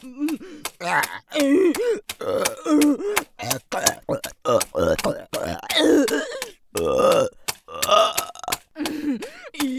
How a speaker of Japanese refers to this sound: やばい、ゲップ止まんない。